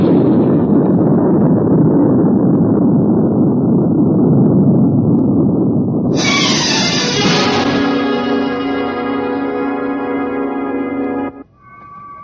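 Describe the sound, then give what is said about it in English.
A loud, sustained roar of the Mars 7 rocket's engines at liftoff after automatic ignition, all engines running, rumbles for several seconds, then turns into a harsher, whining blast with strong tonal overtones before cutting off abruptly near the end. “All engines running. Liftoff. We have a liftoff.”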